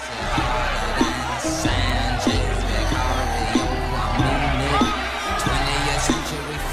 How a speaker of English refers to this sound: The crowd are ecstatic, waving money and cheering.